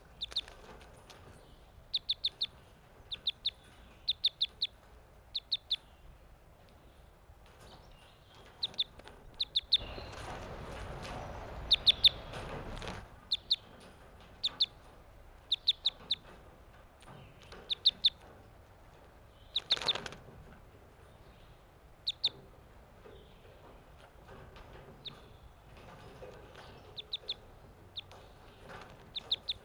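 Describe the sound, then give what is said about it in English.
Newly caught captive crossbills, including a male whose bill crosses to the left, give sharp, high-pitched chip calls that repeat in quick clusters throughout, broken by a few seconds of loud, rustling wingbeats midway and a brief flurry later. No one speaks. “These are the new captives I caught today, May 31st. It looks like the male with the bill that crosses to the...”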